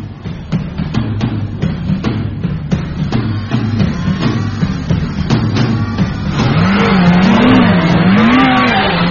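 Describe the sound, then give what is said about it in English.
A car engine revs hard and accelerates as paparazzi chase another car, its pitch rising and falling in surges, with sharp clicks early on and a louder, tire-squealing rush near the end. “Yeah, they're chasing the car in front of us. Pretty aggressive.”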